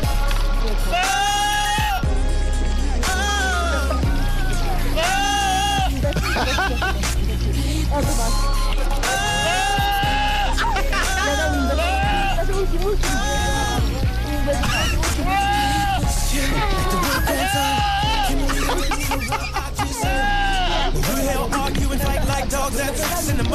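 A goat's loud, human-sounding yells repeat over a steady, bass-heavy R&B song, the wavering cries riding the melody like a lead vocal throughout.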